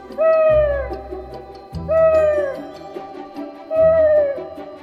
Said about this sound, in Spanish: Había una vez una bruja llamada Meg. Una medianoche, su búho ululó 3 veces para despertarla.